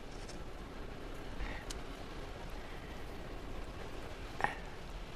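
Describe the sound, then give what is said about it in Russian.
Steady rain falls throughout, a dense, even hiss with no voices, broken only by a couple of brief sharp taps near the middle and end. “Радуешься дождю?”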